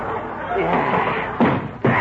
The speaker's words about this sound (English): I'm kicking that cedar chair.